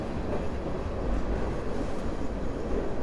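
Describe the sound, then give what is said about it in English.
In chilly Winnipeg, a freight train rumbles by overhead on a bridge, a loud, steady low roar with continuous rattling of wagons and no breaks, filling the whole moment without voices. “Oh, it's a freight train going by right above our heads.”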